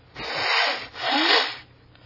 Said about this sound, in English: Let me blow my nose.